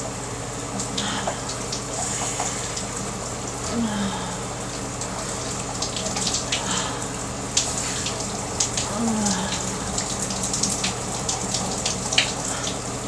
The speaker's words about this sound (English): So we're finally all alone in the shower. Just you and me.